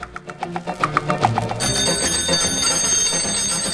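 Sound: alarm clock bell ringing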